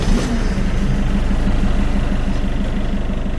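A car engine, started by Toad at the steering wheel, catches and settles into a loud, steady throbbing rumble with a slight rise in pitch near the start; no voices.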